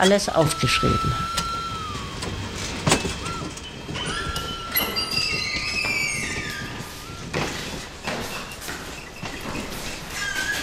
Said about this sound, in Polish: Jesteśmy na dworcu kolejowym.